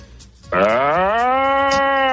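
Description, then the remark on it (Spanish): A person's voice imitates a deer's rutting bellow: one loud, sustained, droning call with a rising onset that holds steady for about a second and a half, with no other sounds. “Está en una berrea y lo muy hace bien, muy bien, ¿eh?”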